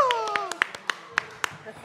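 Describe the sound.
Sparse applause: about eight sharp hand claps at an uneven pace, moderately loud, while a voice with a falling pitch speaks over the first half.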